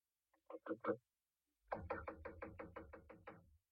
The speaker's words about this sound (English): It gave me a strange feeling as I raised my hand to knock on what once had been my own living room door.